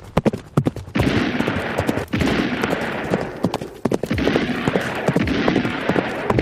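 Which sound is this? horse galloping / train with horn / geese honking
horse galloping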